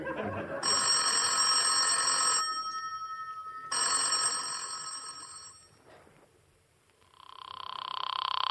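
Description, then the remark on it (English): A telephone bell rings twice, loud, each ring lasting about two seconds with a short pause between, followed by a steady electronic tone near the end. “It's ringing,”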